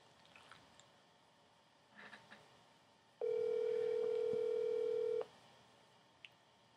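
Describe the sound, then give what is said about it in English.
A phone line ringing: one steady electronic tone lasting about two seconds, loud and clear against faint background rustle, with no one talking. “Let's see if Saul Wright answers the phone”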